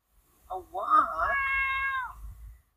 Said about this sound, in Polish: Kojarzycie białego puszystego kota, który drze mordkę?